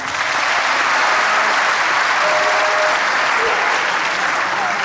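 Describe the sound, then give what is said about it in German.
Sustained, loud audience applause fills the whole stretch, a dense steady clatter of many hands clapping at once with no pause or letup. “Und wenn ihr versteht mit der Stimme, sitzen, Applaus.”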